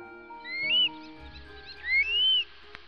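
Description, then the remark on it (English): A stone curlew gives two shrill, high whistling cries, each rising then levelling off, the second longer and more drawn out, standing clearly above a low background rumble. “If you happen to see a small long-legged bird with a black-tipped yellow beak and you hear its shrill cry, that is undoubtedly a stone curlew.”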